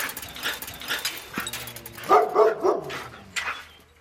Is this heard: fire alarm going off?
no